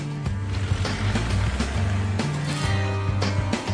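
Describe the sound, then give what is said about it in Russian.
A Soviet car, modeled on a 1975 French Simca, revs and accelerates on a winding road toward 120 km/h, its low droning hum shifting in pitch over steady road and wind noise, with no one talking. “Главная задача – разогнаться на этой машине до 120 км в час на извилистой дороге.”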